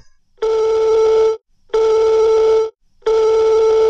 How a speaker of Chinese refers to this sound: 谁打电话找我呀？